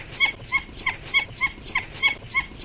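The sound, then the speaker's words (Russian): A red wolf gives a rapid, even series of about nine short, squeaky yelps, each blending a thin whistling tone with a lower voiced note, a call with two fundamental frequencies, with no other sounds. “Это не уникально для красного волка. С двумя основными частотами кричат и домашние собаки, и серые волки, и некоторые обезьяны”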